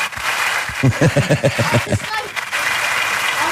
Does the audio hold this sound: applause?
yes